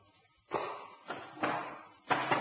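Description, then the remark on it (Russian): A typewriter is set down heavily, producing four solid thuds and bumps spaced unevenly over a couple of seconds, each with a short rattling decay. “А что это за предмет вы принесли? О, пишущая машина.”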